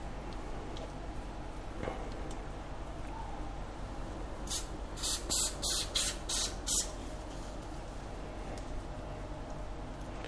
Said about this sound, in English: And what that does is just helps to make it crispy. And I'm just sort of spreading that around with my hands at the moment. Just sort of spray a small area at a time and then spread it over the bird.